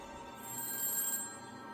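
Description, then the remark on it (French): A telephone rings with a steady electronic trill that swells slightly in the middle, fairly quiet and heard on its own with no voices, as an electronic calling system dials the phone numbers of all residents of East Point to alert the public. “On eut recours à un système d'appel électronique pour composer les numéros de téléphone de tous les résidents d'East Point.”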